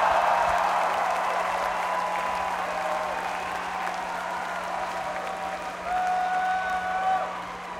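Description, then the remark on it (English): A large crowd at a concert where bands played on stages cheers and claps steadily, a dense wash of applause with scattered whistles and shouts rising and falling across the whole stretch, fairly loud and continuous. “Come on, I need you cheering.”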